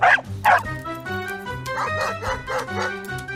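A dog, Kusachka, barks sharply twice, then lets out a rapid run of high yips and excited barks as it leaps up and rushes at Nolik, loud over a busy background of music-like tones.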